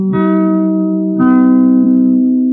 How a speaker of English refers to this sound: And, of course, you heard it on NBC, as the chimes indicated.